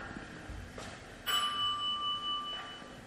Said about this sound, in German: Nee, also ich gehe jetzt lieber in meine Wohnung und klingeln mache ich lieber nicht. Naja, vielleicht doch. Mir geht's wirklich nicht gut. Ach, ich klingel jetzt einfach mal.